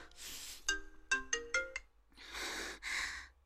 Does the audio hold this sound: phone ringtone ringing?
yes